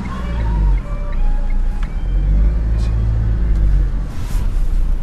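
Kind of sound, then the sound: vehicle, car engine running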